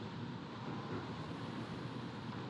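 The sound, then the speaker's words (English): A steady, rushing wash of waves breaking on the shore, a dense continuous roar with no pauses, at a fairly even level and with no voices present. “Until you listen to the breaking and washing of waves.”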